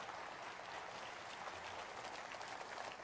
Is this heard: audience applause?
yes